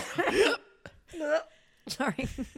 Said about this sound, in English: Hey, up, you having a quick cough and a drag? Oh my God, sorry. Is that an ice key went down the wrong way? Yeah.